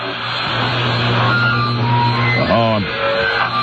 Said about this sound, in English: Oh, it sounds like there's some sort of phone difficulty. Damn, they're gone.